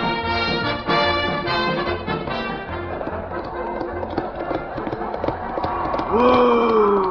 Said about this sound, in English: Whoa! Whoa! Oh, come on, horse, whoa!